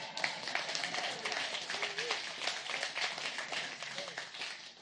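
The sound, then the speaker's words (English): An audience applauding, a dense, steady wash of many hands clapping that holds for the whole stretch, with faint crowd voices mixed underneath. “Well, if you're going to clap, clap.”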